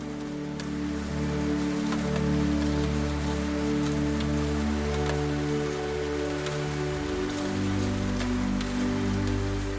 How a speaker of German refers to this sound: Du lässt deinen Kopf leicht zur Seite fallen und blickst wieder hinaus in den Regen, der nun zu einem gleichmäßigen, sanften Rauschen geworden ist. Ein Klang, der wie Musik in deinen Ohren klingt.